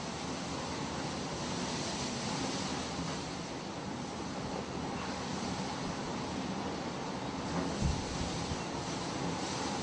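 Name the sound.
ocean waves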